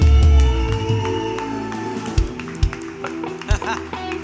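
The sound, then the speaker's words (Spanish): An audience applauds Jesus one morning with dense, continuous clapping, a few sharper, louder claps standing out over a sustained low musical drone. “darle un fuerte aplauso a Jesús esta mañana en este lugar.”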